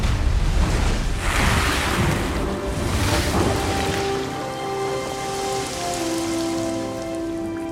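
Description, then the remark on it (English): Water surges and gushes up from a well in a loud, splashing rush, with two heavy bursts in the first few seconds before it settles into a steady spattering hiss over a low, sustained hum, as a blast breaks through the bedrock and the ground shakes. “Water explodes from the well.”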